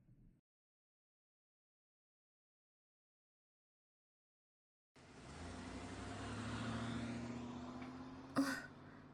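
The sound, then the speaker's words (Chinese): After several seconds of silence, a car engine rumbles to life and steadily revs higher as the car, with a passenger riding in it, pulls away, fairly loud, with a brief sharp knock near the end. “好吧，这个就是汽车。我在山上远远见过，今天是第一次坐。”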